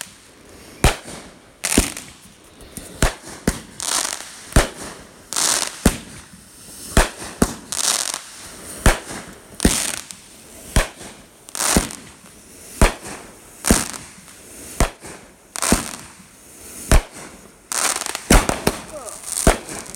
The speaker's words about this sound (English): Literally raining leftover firework material down on us. I mean, it's just like raindrops, but it's all just leftovers from the firework.